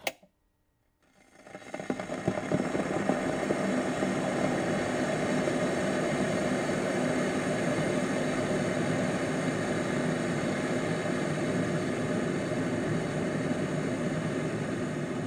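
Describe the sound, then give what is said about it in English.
Actress Kim Basinger boiling a kettle for her morning cup of tea: after a moment of silence, a rumbling hiss rises quickly and holds as a steady, loud roar with no voices. “Firstly, actress Kim Basinger, boiling a kettle for her morning cup of tea whilst wearing pyjamas and a dressing gown.”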